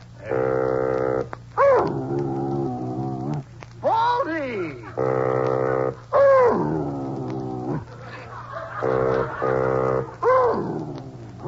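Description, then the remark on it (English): A bassoon plays short sustained notes, and between its phrases a dog named Baldy howls and yowls along, its swooping cries answering the instrument back and forth. “Now, you sit here beside my chair, and I'll play you some beautiful music.”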